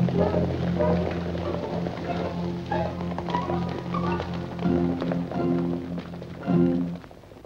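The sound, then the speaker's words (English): Horses gallop with a steady run of thudding hooves as Gisborne's men, having crossed the river, chase after Will's riderless horse, heard under a continuous low, droning background tone that holds through the whole stretch. “He watches and listens, and chases after Will's riderless horse.”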